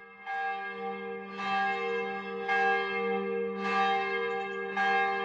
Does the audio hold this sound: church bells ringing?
yes